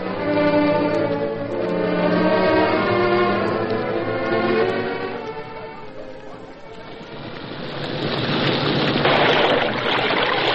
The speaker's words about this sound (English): Logs make quite a splash when they hit the creek, don't they?